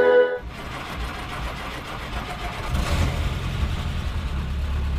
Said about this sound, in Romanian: După cum vedeți, pornește foarte repede. Este clasicul motor 4 cilindri, 2200 centimetri cubi. Mașina are mecanica originală.